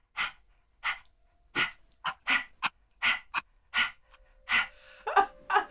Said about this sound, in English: It's called the panting dog. You're going to stick your tongue out like this and do doggy breathing. It's actually a yogic breath. Your tongue is out and you do this.